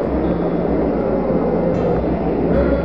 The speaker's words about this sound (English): 1-0, all engine running. Liftoff, we have a liftoff. 32 minutes past the hour. Liftoff on Apollo 11.